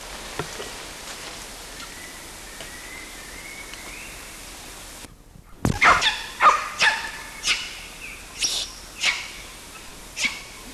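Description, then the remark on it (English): A lone monkey, CW, gives a series of loud, sharp barking calls, about eight in a steady rhythm, following a brief pause after a quieter stretch of faint background rustling. “The latter one calling alone was CW, but the initial part of this recording had both LB and CW quisting and barking together.”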